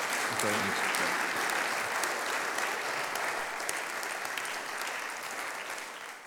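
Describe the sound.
A church service audience applauds a speaker as a group, steadily for about six seconds, a dense wash of many hands clapping that stays fairly loud and gradually thins toward the end. A brief voice is faintly audible near the start.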